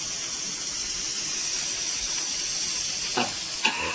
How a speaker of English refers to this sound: You'll feel a little bit windy because I'm putting gas in the stomach.